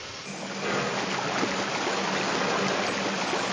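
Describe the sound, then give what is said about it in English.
Water gushes steadily from a swung-over spout into a locomotive's tender tank, a continuous rushing pour that swells slightly stronger after the first moment and holds without pause. No one speaks. “Make sure there's plenty of wood and water in the tender. Swing that spout over.”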